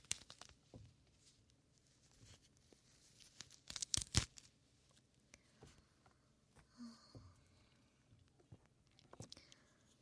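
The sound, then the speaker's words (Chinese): Nylon stockings being torn by a woman in a series of short, crackly ripping bursts, with a louder cluster of rips midway, plus faint rustling and soft breathy whispers between them. “想被姐姐用撕破的丝袜蒙住你的脸，堵住你的耳朵吗？”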